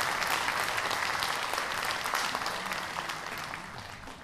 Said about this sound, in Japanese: お楽しみいただけましたでしょうか。もう一度大きな拍手をオーケストラの皆さんにぜひお願いいたします。ありがとうございます。